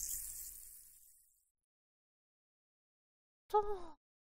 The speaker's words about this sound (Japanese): シュワシュワ、どうでしたか？ゴシゴシやフーフーが心地よい。